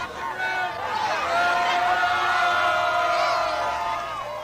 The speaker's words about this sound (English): In case you can't make it out, those people are screaming, Dr. Ruth, Dr. Ruth.